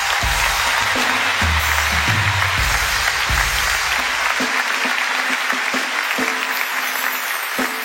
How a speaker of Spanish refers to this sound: De verdad, un fuerte aplauso para todos ellos y para todas las personas que han venido hoy día. Gracias.